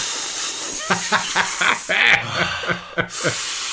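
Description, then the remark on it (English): A voice imitates the hiss of a vacuum air leak in the central locking of the passenger door of a Mercedes 123: a steady breathy hiss running throughout, broken by short voiced sputters and pops, with a brief sharp cut-off near the end. “It's in my Mercedes 123, there was an air leak in the central locking in the passenger door.”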